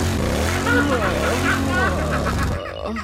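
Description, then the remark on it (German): A motorcycle-shaped wall clock plays a loud motorcycle engine revving sound on the half hour, its pitch swooping up and down for about two and a half seconds before abruptly cutting off. No one talks over it. “Eine Wanduhr in Motorradform. Aber pass mal auf, das Beste kommt noch. Zu jeder halben Stunde macht es das hier.”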